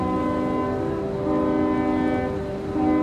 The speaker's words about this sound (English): blasts out the fort's safe passage code. Two long whistles, one short.